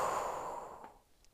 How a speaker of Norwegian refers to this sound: Da kan vi begynne med å puste. Begynne å puste inn. Hold pusten. Og pust ut. Og pust inn. Og hold pusten. Og pust ut.